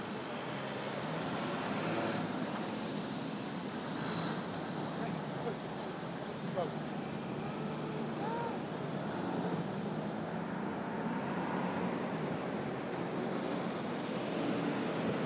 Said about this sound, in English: Sounds like there's lots and lots of traffic going around Vauxhall Cross.